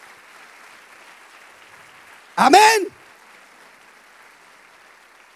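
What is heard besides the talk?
audience applauding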